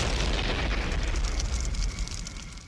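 A car explosion: a loud, deep boom that rolls into a sustained, roaring rumble with crackling debris, easing slightly toward the end. No one speaks.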